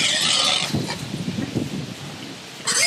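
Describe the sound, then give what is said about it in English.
A pig squeals loudly and shrilly at the start, then low snuffling and shuffling noises follow before another sharp, piercing squeal breaks out at the end. “What is this? Pig squealing.”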